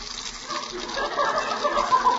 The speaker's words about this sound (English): And the gas stove's squirting water.